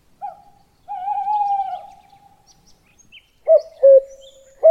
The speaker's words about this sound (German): Mitten im Wald, im Reichswald. Hört ihr das auch? Das ist ein Waldkauz.